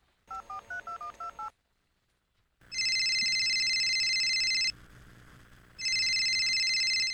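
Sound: telephone number being dialed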